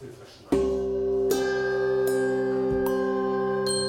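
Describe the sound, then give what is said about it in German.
Several handbells ring out together in a bright, sustained chord during an ensemble rehearsal, with fresh strikes at regular intervals layering overtones that shimmer and linger without fading, no voices present. “Und allein zu Hause mit der Glocke üben bringt nichts, denn nur im Zusammenspiel entsteht Musik.”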